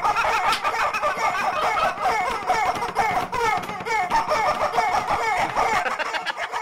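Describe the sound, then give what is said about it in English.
Four squeaky, honking rubber chickens play a bouncy electronic dance tune, the shrill pitched squeals stacked in a steady, driving rhythm that stays loud and busy throughout. “That is electronic dance music played on rubber chickens”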